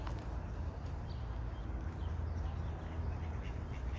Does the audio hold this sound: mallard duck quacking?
yes